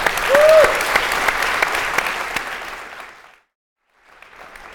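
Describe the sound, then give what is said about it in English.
An audience claps in a dense, steady burst of applause that fades out around three seconds, then after a brief silence a softer, quieter round of clapping begins. “I'm going to applaud that, actually.”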